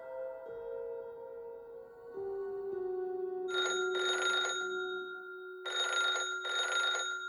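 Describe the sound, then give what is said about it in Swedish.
A telephone at the Swedish consulate in Tallinn rings at lunchtime in two double bursts, a bright trilling bell repeated after a pause, heard clearly over a steady low tone with no voices. “Vid lunchtid ringer telefonen på Sveriges konsulat i Tallinn.”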